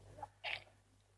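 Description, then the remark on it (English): A single quick sneeze, a brief intake of breath followed by a sharp, hissing burst, fairly quiet, with no talking around it. “Bless you.”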